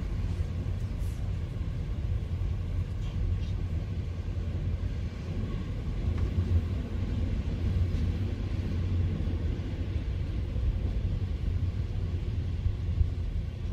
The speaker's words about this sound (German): Das war deine Minute im Zug.